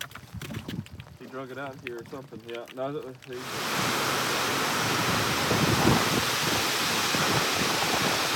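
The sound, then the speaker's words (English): A voice talks briefly at first, then a dense, steady hiss of rain pattering on lake water takes over, loud, continuing evenly to the end. The rain falls during a storm with lightning and high winds while people are out fishing in a cove of the lake. “So it's raining, but that ain't stopping us.”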